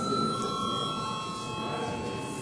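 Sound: parliament chamber bell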